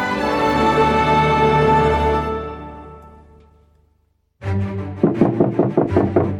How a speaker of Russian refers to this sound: В дверь гостиничного номера громко постучали.